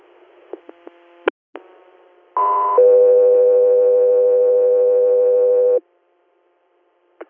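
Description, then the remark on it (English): A few short clicks and blips, then a loud steady two-part tone: a brief high pitch stepping into a long sustained lower tone lasting about three seconds before cutting off, radio dispatch alert tones for Guthrie Air. “Guthrie Air, standby for tones.”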